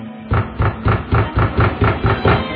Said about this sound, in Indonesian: Lalu ada yang menggedor-gedor pintu.